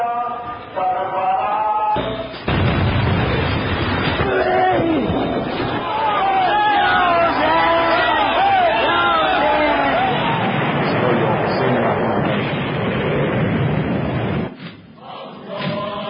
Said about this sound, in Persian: اینم که دارن عزیزان دارن تو چیز مشاهده میکنن، فیلم عزاداری شیعیان پاکستان هست که با انفجاری که انجام دادن بیش از 200 نفر رو به خاک خون کشیدن.